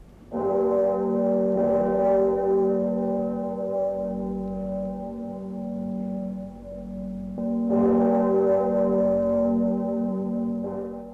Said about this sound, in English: This is the Mercy Bell, Clémence it is called, that rings from its spire high in the ancient city of Geneva.